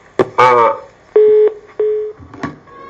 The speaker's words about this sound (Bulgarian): Кой звъни?